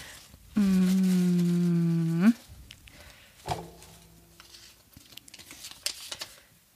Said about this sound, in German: Nächste Frage. Raschel, raschel, raschel, raschel.